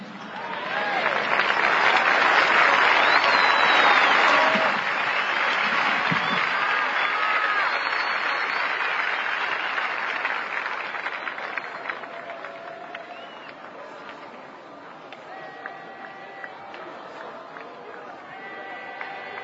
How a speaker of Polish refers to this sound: Wielka radość, zresztą ta homilia przerywana wielokrotnie oklaskami.